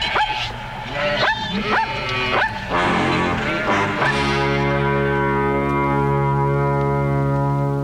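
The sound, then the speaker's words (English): A dog barks in a quick series of sharp yips over the first four seconds, followed by a steady low humming drone that continues to the end. “Man domesticated the sheep and made friends with dogs to help him manage his flocks of sheep.”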